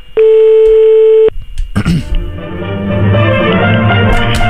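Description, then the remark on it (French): A single loud, steady telephone ringback tone on an outgoing call to a news agency sounds for about a second, stops, and is followed by a burst of rich, orchestral-sounding music that continues to the end. “On appelle l'AFP de nouveau, je réessaye. Hein. Ça sonne.”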